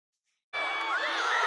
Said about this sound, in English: Crowds reacting in Buenos Aires as Lionel Messi made more World Cup history.